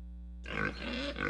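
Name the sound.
pig grunting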